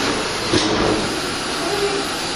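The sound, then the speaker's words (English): A vacuum cleaner runs with a steady, loud whooshing drone, moving from carpet onto the linoleum in front of a door; a brief bump sounds early on as it bumps along the wall. “Okay, now it's kind of going to my right, kind of going toward the door, and you'll hear it when it goes from the carpet to the linoleum, which is in front of our door. Bumping along the wall there.”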